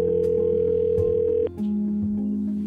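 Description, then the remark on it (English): A telephone line tone while a Unified Police Department detective places a call to an individual: a steady, unbroken hum holds for about a second and a half, cuts out briefly, then returns as a lower sustained tone. No one speaks. “I was initially given this case by my sergeant, who asked me and another detective that was brand new in the unit to call an individual on the phone.”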